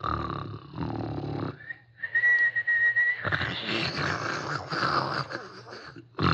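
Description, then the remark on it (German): A sleeping person snores: rough, rasping snorts and snores alternate with a thin, steady nasal whistle lasting about a second, all fairly loud, with no talking. “chroppet, chochelt, pfeift mit der Nuss”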